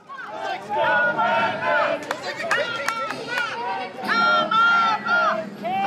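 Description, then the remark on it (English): A loud crowd at a packed front-yard tailgate party shouts repeated, rhythmic "Let's go, Brandon!" chants at a passing Democratic parade float, many voices overlapping in bursts, with a few sharp claps or bangs cutting through midway. “And they began shouting at the Democratic float.”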